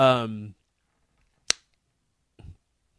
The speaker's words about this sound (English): I've noticed I've started doing this clicking thing with my tongue on the roof of my mouth. And I never, like, I just started doing it in the last 6 months.